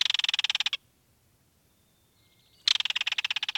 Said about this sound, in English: Listen for green frogs and bullfrogs.